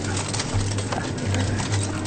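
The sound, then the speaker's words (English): Low, murmuring clucks from caged hens come in short repeated bursts over a constant, dense background hiss of many crowded birds, as investigators find hens tangled in the bars of their cages. “Investigators encounter birds that are tangled in the bars of their cages.”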